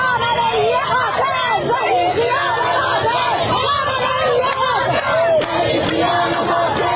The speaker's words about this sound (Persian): بر اساس تصاویر منتشر شده در شبکه‌های اجتماعی، معترضان در نیشابور، تربت حیدریه، کرمانشاه، تهران، قزوین، گیلان، مشهد، ایلام و چندین شهر دیگر با حضور در خیابان‌ها علیه مقام‌های جمهوری اسلامی شعار سر دادند.